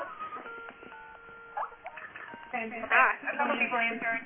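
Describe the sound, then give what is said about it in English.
A series of steady electronic phone-call beeps at stepping pitches for about two seconds as a group call is set up, followed by a person talking over a faint line. “Beeping.”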